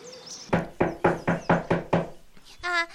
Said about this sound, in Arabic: وهكذا يا أحبائي وصل الأرنب والضفدع إلى بيت القطة وطرق الباب.